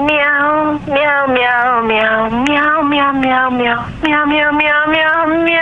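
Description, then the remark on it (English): A person imitates a cat, drawing out a long, loud, wavering meow with a few brief dips between sustained vocal stretches. “Meow.”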